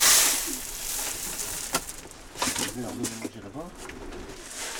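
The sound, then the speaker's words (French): Racing pigeons, raised for sporting competitions, coo in a pigeon loft in low, throaty, rolling bursts, a few overlapping calls against a steady airy hiss, with a couple of short knocks and rustles in between. “C'est élever des pigeons dans le but de les engager dans des compétitions sportives.”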